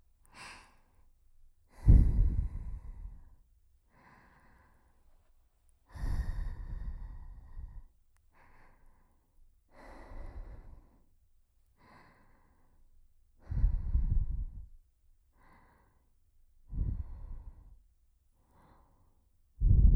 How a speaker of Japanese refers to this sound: これまで強かった耳吹きから一転、くすぐったく感じるくらいに優しい吐息。これでお兄さんをノックダウンというわけなんですわ。